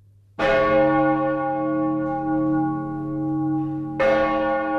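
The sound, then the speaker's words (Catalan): A large cathedral bell strikes loudly twice, about three and a half seconds apart, each toll ringing out into a long, rich, humming decay, on New Year's Eve in the old quarter as people eat twelve grapes to the chimes. No voices are heard. “de fer el cap d'any al barri vell i menjar-se els 12 raïms seguint el repic de les campanes de la catedral.”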